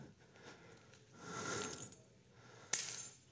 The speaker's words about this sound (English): Now, if I told you those were keys to the Maserati, Ferrari, something like that, there would be a fight probably for it.